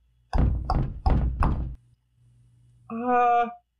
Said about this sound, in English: He knocked on the door. And the door knocked back.